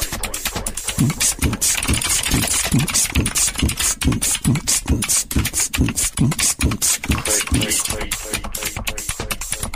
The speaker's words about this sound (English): Clicky keyboard.